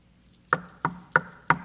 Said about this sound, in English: See, he's standing at the door and knocking.